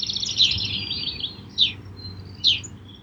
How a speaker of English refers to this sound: If you are able to step outside and hear many types of birds, you might also have a greater feeling of well-being.